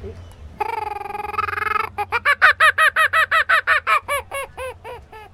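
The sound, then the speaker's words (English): A kookaburra call imitated on a handheld owl caller: a sustained reedy tone, then a rapid run of about fifteen loud, rhythmic cackling hoots that quicken and fade slightly toward the end. “We've got a kookaburra.”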